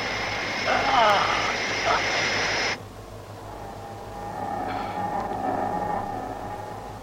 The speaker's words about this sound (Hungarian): Carter, kapcsold ki a motorokat!